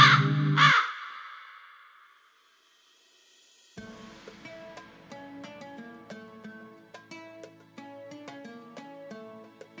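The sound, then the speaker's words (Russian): A couple of loud, harsh jackdaw caws ring out at the start, followed by a short silence and then steady plucked, chiming music. “На проводе Галка, механическая птица-рассказчица.”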